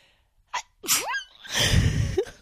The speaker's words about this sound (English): Sorry. I didn't mean to sneeze in your ears.